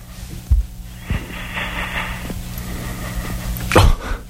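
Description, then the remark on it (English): Heavy, ragged snoring breaths of a sleeping caller come through a humming phone line, with a rasping drawn-out inhale in the middle and sharp, snorting bursts at the start and end. “Yeah, he breathes like he's trying to start a car.”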